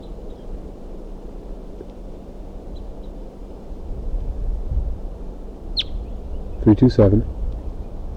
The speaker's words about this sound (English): Now she's perched about 2 feet away. There she flew up to a tree again. She's calling, and there's another wild crossbill coming in.